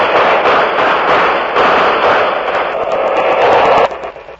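A loud, dense firing squad rifle volley: rapid overlapping gunshots merge into a sustained crackling roar for about four seconds, then stop abruptly. No voices are heard.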